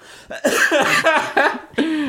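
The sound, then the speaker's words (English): A loud fit of coughing: five or six harsh, raspy coughs in quick succession with brief gaps between them, and no talking. “Okay, I still cough a lot.”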